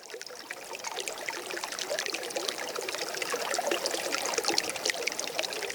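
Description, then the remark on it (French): Water runs steadily from a tap, a continuous splashing rush that holds an even level throughout with no voices. “Vous savez qu'on ne peut plus boire l'eau du robinet ?”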